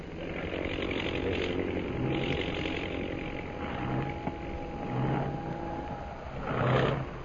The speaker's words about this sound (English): That plane in center of formation. Oh, yeah. Is dropping out of line and circling for a landing.